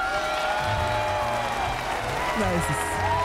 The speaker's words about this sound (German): Ich gönne mir einen Applaus.